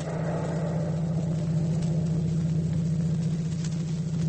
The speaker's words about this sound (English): In March 45, the 296th moved on to Düren in Germany to fix up the superhighway, the road to Berlin. Bob was driving his truck along that road.